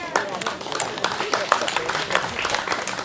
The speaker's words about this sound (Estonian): Võib nii, aplaus!